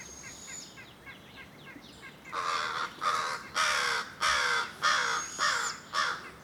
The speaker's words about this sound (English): Crows are getting it within about 5 feet of it.